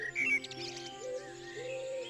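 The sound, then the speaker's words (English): Overlapping dawn chorus birdsong, broadcast live from Ireland on RTE Radio 1, with high chirps and whistles layered over sustained tonal calls, a steady, busy chorus of several birds at moderate volume with no one talking. “And as the great sound wave travels from the Indian subcontinent across Europe, we have a symphony of birdsong.”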